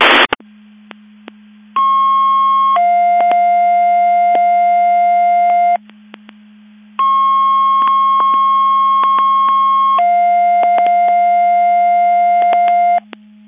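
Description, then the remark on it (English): Fire dispatch alert tones for a Crystal Lake Fire Department box alarm, number 5-341: a steady higher tone gives way to a longer, lower one, and the two-tone pair sounds twice over a constant low radio hum, with a short burst of static at the start. “The Crystal Lake Fire Department has struck out box alarm number 5-341.”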